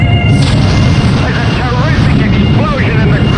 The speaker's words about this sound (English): There's one jet that seems to be making a pass. It's coming in low now. It's fired a rocket.